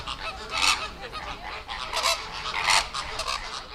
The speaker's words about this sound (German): Flamingos. Haben wir vorher ja schon drüber gesprochen. Klingt ein bisschen ähnlich wie Affen, ist mir gerade aufgefallen. Wie die Affen fast. Aber gut, klar, es waren Flamingos.